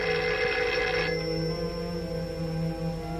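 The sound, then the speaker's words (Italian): A telephone bell rings once in a bright, rattling burst lasting about a second, then cuts off, leaving a steady tonal hum underneath. No one speaks. “Il telefono.”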